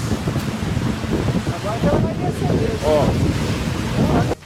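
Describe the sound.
Heavy rain in Uberlândia, with runoff water rushing down in the Minervina area, makes a loud, steady roar that fills the whole recording, while a man's voice speaks over it and the sound cuts off abruptly at the end.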